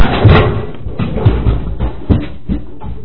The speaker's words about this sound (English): Was that the computer that you just knocked over?